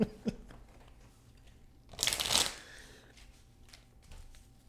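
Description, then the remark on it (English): A deck of tarot cards is shuffled in one quick, crisp riffle lasting about a second, set between faint taps and handling noises, before a tarot card reading. “Let's see if the cards have anything more optimistic. Did you shuffle?”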